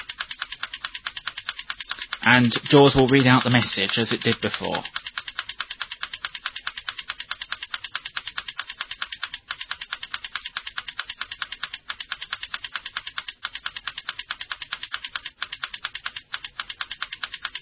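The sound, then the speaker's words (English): Rapid, steady clicking typing sound plays as someone types a message and stops when she has finished, a dense train of sharp, bright ticks with a few brief gaps; a voice speaks briefly over it near the start. “now we're getting the clicking sound, which will stop when she's finished”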